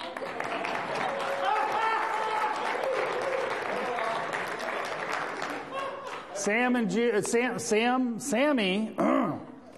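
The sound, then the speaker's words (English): A crowd applauds steadily, dense clapping filling the first six seconds before a man's voice speaks over the fading applause, as a drama ministry group walks up to the front. “They had to milk it in, milk in that applause.”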